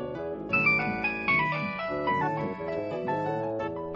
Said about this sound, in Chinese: 我手机响了啊，不跟你聊了哈。